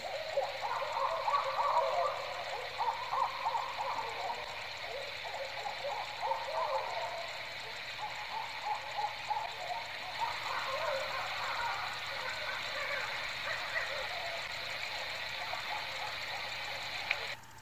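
A pair of birds caterwauling and hooting, with bursts of harsh, rapid calls that are busiest in the first several seconds, set over a steady, buzzing background chorus.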